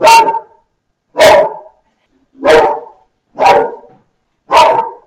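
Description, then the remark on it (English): A dog named Holly, adopted from the Dogs Trust, barks five times in a steady, evenly spaced rhythm, each bark loud and sharp, with silence between them and no one talking. “But anyway, my dog is barking mad.”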